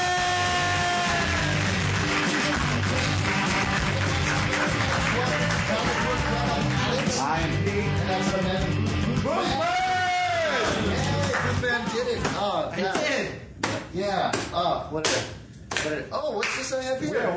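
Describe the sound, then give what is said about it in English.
The audience of the Comic Book Club live show claps and cheers over loud, bright music as the hosts are introduced, with whoops rising in the mix; toward the end the music thins and sharp, uneven claps on a copy of Scott Pilgrim's Finest Hour, Volume 6 stand out on their own. “What are you clapping on?”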